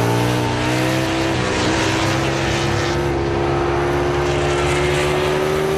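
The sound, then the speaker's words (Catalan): Pedro Acosta's KTM racing motorcycle engine drones loudly and continuously during a race, its pitch wavering and sagging slightly as it loses performance, with no voices present. “Que la moto no li funciona. Puja'm el volum, aviam si ho puc sentir.”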